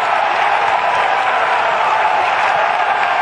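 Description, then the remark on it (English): A large golf crowd erupts in loud, sustained applause and cheering after a player's 7-iron shot from 207 with three holes to play, a dense steady roar of clapping and shouts that fills the whole moment without any speech. “I think it was the combination of the moment, the call, the feeling from the crowd.”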